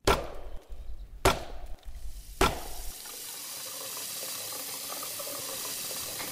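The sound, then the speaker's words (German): Three sharp, evenly spaced knocks on wood, then a steady rush of water pouring into a washbasin made of water-repellent (hydrophobic) beech wood, continuous to the end, with no one speaking. “Wir haben das hydrophobe Holz, das wasserabweisende Holz.”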